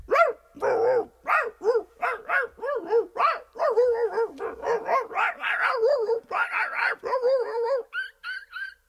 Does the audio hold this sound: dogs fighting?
yes